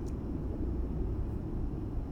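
A muffled, deep rumble of city traffic drones on steadily, dull and submerged-sounding, with no distinct voices or individual vehicles standing out; the sound of a city sunken at the bottom of the ocean.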